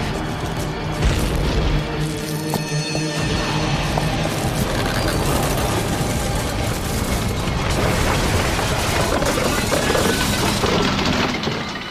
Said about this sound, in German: Die Schockwelle der Explosion traf meine Kuppel.